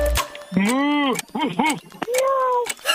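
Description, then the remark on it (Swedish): In a quiz game, a man voices three animal sound imitations in quick succession, with bending, arching pitch contours, ending in a drawn-out meow-like cat call, loud and alone without other talk. “Det var en katt.”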